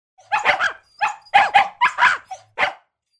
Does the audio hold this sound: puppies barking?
yes